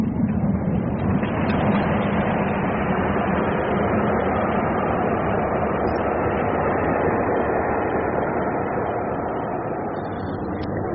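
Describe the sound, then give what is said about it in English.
A train thunders past in a tunnel, a loud, steady, enveloping roar that holds for the whole stretch, dense and rumbling, and eases only slightly at the very end. No voices. “It's a train.”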